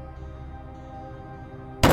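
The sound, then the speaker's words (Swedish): After a quiet stretch of low hum, a single loud, sharp smack of a cane slammed down on a school desk lands near the end, with no voices. “hade slagit ner sin käpp på skolbänken snett framför mig”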